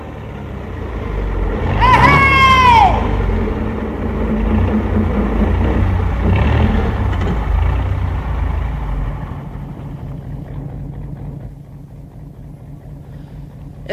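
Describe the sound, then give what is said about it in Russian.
A truck engine rumbles steadily, with a brief high-pitched squeal early on, then the heavy drone eases to a quieter, lower idle toward the end. “Бензинщик, левак, хоть бы у тебя шина проткнулась!”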